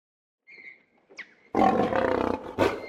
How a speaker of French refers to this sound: Oh, regarde le lion! Il est beau! Non, j'ai peur!